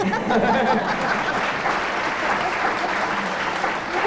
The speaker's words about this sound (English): I think when you hear the answer to this, this is going to be worth a round of applause from the audience, because it is, in fact, a test of elementary training.